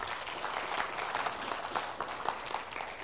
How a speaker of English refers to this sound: Because we are his children, church. How many of us can give a round of applause for the Lord in this morning?